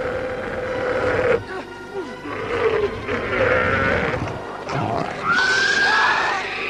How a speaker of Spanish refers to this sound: El chillido del dragón les obliga a taparse los oídos.